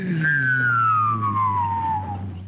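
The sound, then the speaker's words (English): A voice imitates a weird, space-looking fantasy car starting to drive along: one sustained, buzzing hum with a whistling overtone that slides steadily downward in pitch for about two and a half seconds, fairly loud throughout. “That's a good fantasy car noise.”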